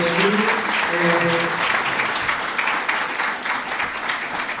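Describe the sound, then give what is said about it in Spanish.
Steady audience applause for a conference speaker, a dense wash of many hands clapping at an even loudness for several seconds, with a brief murmur of voices underneath near the start. “Un aplauso.”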